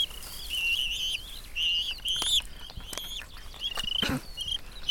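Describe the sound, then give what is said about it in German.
A bird whistles repeatedly in Steinhöfel in the Uckermark, in thin, high, sliding notes, the phrases coming in quick bursts with brief pauses between them, fairly loud over a soft background hiss. “Das Pfeifen, was wir jetzt gerade hören, das ist der Grund, warum”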